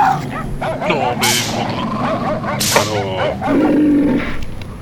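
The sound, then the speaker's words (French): Dogs bark loudly in short, excited bursts, with sharp yaps and whiny, yelping tones in between, the barking coming in several clusters over a few seconds. “Oh les chiens, on se calme les chiens.”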